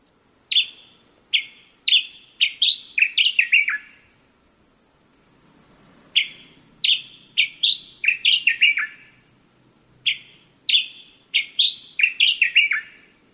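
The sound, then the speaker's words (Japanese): A Sakhalin grasshopper warbler sings loudly near midnight in a residential neighbourhood where every house is asleep, three bursts of rapid, ringing notes, each starting with a few clear whistles and ending in a quick tumbling jumble, over a faint low hum. “どの家も寝静まった住宅街に、エゾ潜入の声がとんでもない音量で響いています。”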